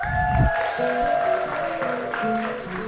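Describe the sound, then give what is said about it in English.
An audience claps steadily for a few seconds with the UB Orchestra (University of Boya Orchestra) for the show Music Time in Africa, a dense wash of applause with some cheering voices and a faint tone running underneath. “Can you give an applause?”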